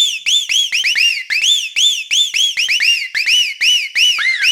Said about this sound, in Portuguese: Agora vamos testar o som, testando os agudos.